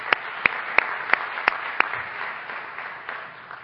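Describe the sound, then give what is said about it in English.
An audience at the CSTE annual conference applauds the standing members of the CSTE Executive Board, a broad wash of many hands clapping with six sharp, evenly spaced louder claps standing out early on, then the crowd's clapping gradually fades. “We'd like to give you all a round of applause.”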